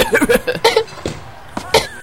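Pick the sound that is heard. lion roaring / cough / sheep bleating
cough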